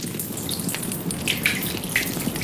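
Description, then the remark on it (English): A continuous stream of urine, used to put out a fire, splashes and patters steadily, fairly loud, with a few brighter drip-like plinks scattered through it. No one speaks. “The wine that night worked as a diuretic. Excuse this little tinkle.”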